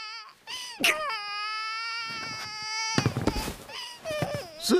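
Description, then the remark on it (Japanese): Someone bursts into loud crying: a long sustained high-pitched wail, then a series of choppy, sobbing bursts that trail off and rise again at the end. “先輩、世界平和のためには泣いてる場合じゃないですよ。”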